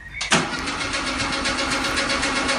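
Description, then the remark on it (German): The engine of an old Mercedes, a German car, cranks briefly and takes a moment before it catches, settling into a steady, rough idle with a rhythmic chugging pulse, fairly loud, with no voices. “Er ist auf jeden Fall ein deutsches Modell, dauert ein bisschen, bis er anläuft, können wir ja jetzt. Ja, aber jetzt kommt er. Ein schöner alter Mercedes.”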